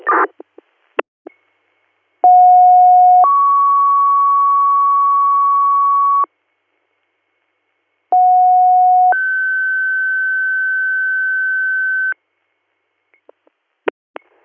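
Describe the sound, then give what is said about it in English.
Dispatch alert tones paging River Valley EMS for an additional rig: a steady lower tone steps up to a longer, higher tone, and the two-tone page sounds loudly twice with a gap between. Brief radio clicks come before and after. “Want additional tones, you're just a single provider, right?”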